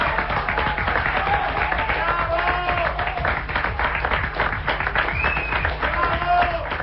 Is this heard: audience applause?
yes